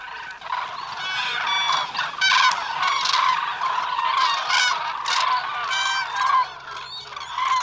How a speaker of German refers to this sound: Der Lärm des Gekrächzes und Trompetens einer großen Gruppe von Kranichen ist kilometerweit zu hören. Das Geschrei ist ohrenbetäubend. Der Kranich ist einer der lärmendsten Vögel, die es gibt, und der Hauptdarsteller in diesen Momenten.